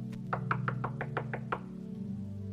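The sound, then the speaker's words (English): A quick series of about eight sharp knocks on the door of a canteen in Lancaster, evenly spaced, rapping steadily for a second and a half before stopping, over a low background hum. “We're sitting in the canteen yesterday at Lancaster, and there was a knock on the door.”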